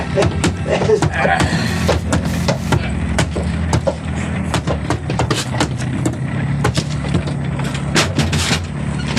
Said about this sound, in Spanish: Cierran la puerta tras de sí, dejando a Calimán prisionero en los cuartos de ambiente asfixiante.